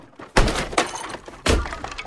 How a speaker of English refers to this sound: smashes his grandmother's things.